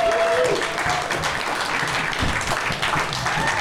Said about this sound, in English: Ladies and gentlemen, we have two special guests on today's show from the Do-Rag and Deer Tag podcast. Ladies and gentlemen, clap it up